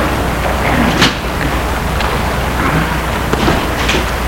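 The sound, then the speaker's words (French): A car door shuts with a single solid thunk early on as a man gets out of his car stopped in front of a house on boulevard des Belges in Lyon in the early morning, over a steady rain-like hiss, followed by a couple of fainter knocks and rustles. “Il sort de voiture.”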